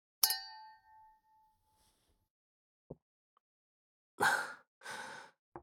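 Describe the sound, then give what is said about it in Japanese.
Two glasses clink once in a toast to a couple's anniversary, at a home, with a bright ringing tone that fades over about a second, followed after a pause by soft breaths and a quiet sigh. “それでは、二人の記念日に、乾杯。”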